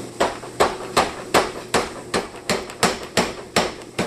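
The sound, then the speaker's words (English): A 100-pound Bradley upright strap power hammer pounds and flattens a hot iron railroad spike in a steady, rapid rhythm, about ten heavy ringing blows in four seconds, loud, with a faint mechanical hum between strikes. “It's a 100-pound Bradley upright strap hammer. And you can see that it just really forged that railroad spike down quite a bit, how much I flattened that out in one heat.”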